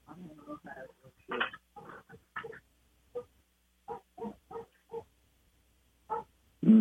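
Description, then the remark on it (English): A young male dog, a little over a year old, barks just outside a window in a string of short, sharp yaps with uneven pauses between them, the last bark loudest, with some vocal noise mixed in. “Our young dog, he's a little over a year old now. He's taken upon himself to be the loudest barker in the neighborhood.”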